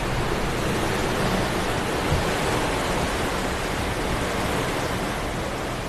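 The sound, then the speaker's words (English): A dense, steady roar of turbulent sea with a high swell in the Arctic Ocean, during a voyage sailing from Tromsø in northern Norway toward Bear Island. Loud, with churning water and a wind-like hiss and no clear breaks between swells. No voices. “The Arctic Ocean, day 2, beginning of the voyage, sailing from Tromso, the north of Norway, up to Bear Island, halfway to Svalbard, and the swell is high, it's a turbulent sea, and here's what it sounds like.”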